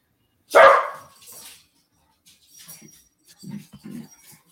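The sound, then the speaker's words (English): The speaker's dog lets out one loud, sharp bark, followed by a few quieter, lower barks and huffs in an uneven rhythm, with no one speaking. “And I love when my dog starts going off.”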